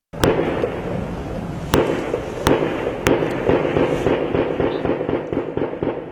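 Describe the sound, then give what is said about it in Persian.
Sustained, crackling gunfire with a rapid rattle of shots throughout, punctuated by several louder, sharp blasts at irregular intervals, heavy, with no voices. Clashes and explosions around a building near Srinagar in Indian-controlled Kashmir, where Indian security forces fight three or four men armed with grenades and machine guns holed up inside. “صدای درگیری شدید و انفجارها در اطراف یک ساختمان در نزدیکی سرینگر، مرکز کشمیر تحت کنترل هند شنیده می شود.”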